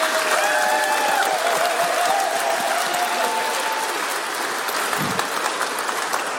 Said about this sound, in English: And give a clap.